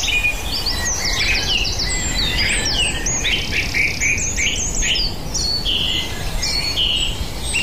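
Several song thrushes sing at once, their bright, varied phrases overlapping continuously against a steady rushing background from a waterfall, with no voices; recorded on a dawn chorus walk.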